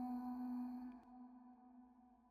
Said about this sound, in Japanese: どこからか教会の鐘の音が聞こえてくる。徐々に辺りが暗くなっていく。ボーン、ボーン。時間を告げる鐘が鳴る。ボーン、ボーン。